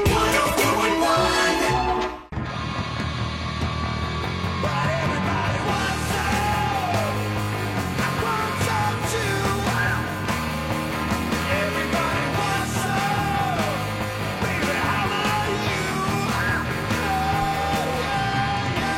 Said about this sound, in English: Best scream in the business.